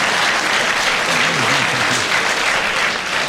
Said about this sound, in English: And your first point, too, a round of applause.